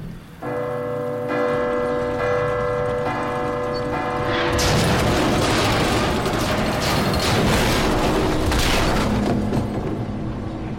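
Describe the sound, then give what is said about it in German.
A deep clock tower bell tolls at midnight in slow, steady strikes, its long ringing tones overlapping, before a sudden loud crashing, rumbling roar swells up and drowns it out. “Und dann, wie du schon sagtest, genau, dann läutet diese Glocke”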